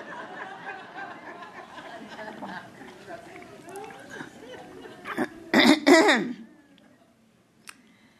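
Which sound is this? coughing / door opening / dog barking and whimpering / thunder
coughing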